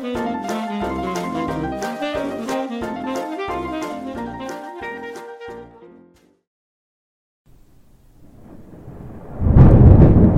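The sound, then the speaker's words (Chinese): A few seconds of melodic music fade out, then after a brief pause a low rumble of spring thunder builds and swells into a loud crash at the end. “春雷炸响，雷声轰隆隆的打下来，最后一批还在赖床的小懒虫也终于准备要醒过来了。”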